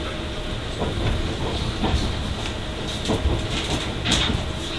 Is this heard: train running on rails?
yes